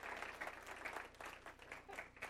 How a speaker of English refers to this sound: Come on, applause like you really mean it. They're doing a great work.